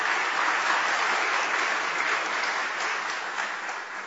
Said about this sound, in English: Okay, so first of all, I think we should give a round of applause to young people.